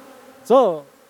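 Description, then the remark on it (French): Honeybees buzz in a steady, low drone, then one bee swoops past the microphone for a loud, brief pass, its pitch bending up and back down before fading into the hum. “Dès qu'ils pulvérisent des pesticides ici, quand la floraison des arbres commence, on doit emmener les abeilles à la montagne.”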